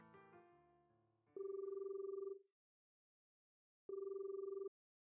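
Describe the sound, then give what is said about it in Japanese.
A phone call to a butler rings out through the earpiece: two steady, buzzing ringback tones separated by a pause of silence, clear and fairly loud, following a brief burst of dialing or button tones. “そうと決まれば、早速執事に電話をしませんと。”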